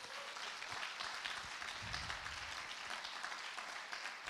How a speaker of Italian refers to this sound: Facciamo un applauso allo Spirito Santo.